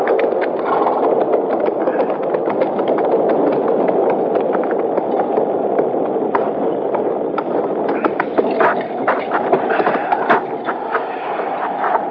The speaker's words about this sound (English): Well, there ain't even no shed there for the horses. Now, let's ride around to that side, out of the wind.